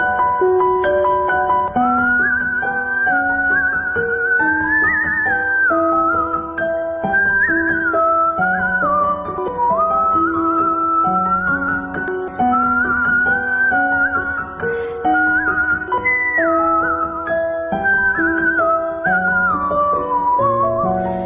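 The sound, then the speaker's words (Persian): A musician who plays violin, kamancheh and whistle performs a continuous whistled melody with gliding, wavering notes. The melody rides above steady, sustained instrumental chords for the whole stretch. It stays loud with no talking. “نوازنده ی ویولون، کمانچه و سوت”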